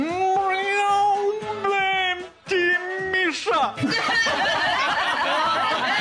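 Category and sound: animal, cat meowing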